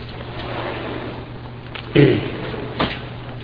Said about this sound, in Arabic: لا افتح الباب عشان الأخوان برا يسمعون. افتح مرة نهائي.